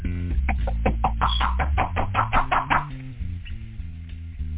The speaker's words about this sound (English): They're knocking at this time right now. I don't like being disturbed when I'm in here counting money, fellas. Who needs the door?